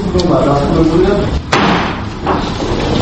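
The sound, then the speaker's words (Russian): A single sharp wooden gavel strike by a judge deciding to accept a case for consideration cracks out midway, brief and loud, over a steady bed of murmuring voices and low rumble. “Ударом деревянного молотка судья решил принять дело к рассмотрению.”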